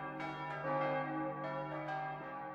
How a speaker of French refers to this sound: La vision ne dura que le temps d'un éclair, et quand elle eut disparu, des glas, des millions de glas se mirent à tinter. On eût dit que toutes les cloches de la chrétienté éclataient en sanglots. C'était à fendre l'âme.